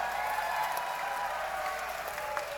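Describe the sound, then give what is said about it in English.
A round of audience applause for two songwriters, a steady dense patter of many hands clapping at moderate loudness throughout, with no voices over it. “Ladies and gentlemen, why don't we just have a quick round of applause for the two greatest songwriters of all time,”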